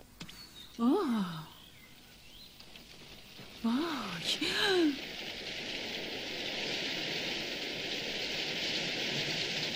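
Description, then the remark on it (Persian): Heavy rain sets in as a steady, dense hiss that swells and fills the second half, after a few short vocal sounds from people near the start. “داره بارون میاد، بارون شدید.”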